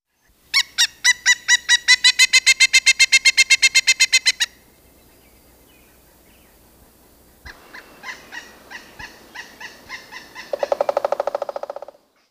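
A pileated woodpecker gives a loud, rapid series of ringing notes, then a quieter, more spaced run of calls, then another quick burst that trails off, with no one speaking.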